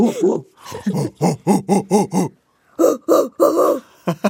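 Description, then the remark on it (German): A person vocally imitates a large orangutan swinging from branch to branch, with a rapid series of loud, rhythmic hooting grunts, pausing briefly before a second burst of the same pulsing whoops, clear. “Wenn man zum Beispiel sich vorstellt, wie so ein großer Orang-Utan macht, der sich so von Ast zu Ast schwingt.”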